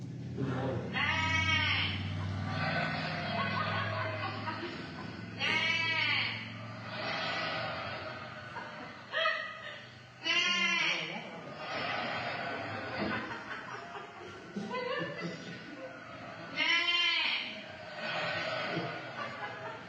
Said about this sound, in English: And a little context before I show this one to you that you may stumble across is this is what happens when you baa at a flock of sheep.